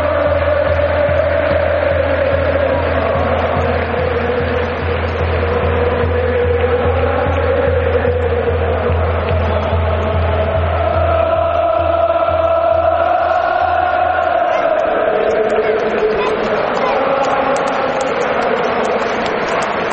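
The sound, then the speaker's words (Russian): A dense roar from a huge football stadium crowd of Ireland national team supporters, thousands of voices merging into a sustained, wavering song, with a steady low rumble underneath that cuts out about three-quarters through. “но эта атмосфера непередаваема. Мы сейчас послушаем, и я объясню, в чем дело.”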